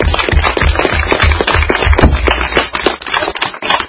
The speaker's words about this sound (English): Any questions? Let's give a big round of applause to Joe.